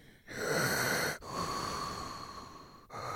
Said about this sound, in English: I'm breathing into Yeah, don't breathe too heavy. You might make people... they might have to turn down their volume.